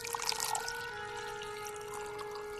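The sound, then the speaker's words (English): Merlot wine pours steadily into a glass for a couple of seconds, a soft splashing burble with a faint ringing tone, louder at the start and then settling into an even, quiet trickle. “Can I offer you a glass of wine?”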